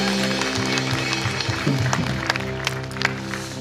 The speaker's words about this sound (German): Lasst uns der Band nochmal einen Applaus geben. Vielen Dank, Leute.